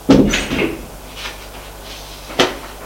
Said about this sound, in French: La porte s'ouvre, son père apparaît.